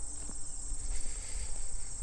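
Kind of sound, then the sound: insect, grasshopper chirping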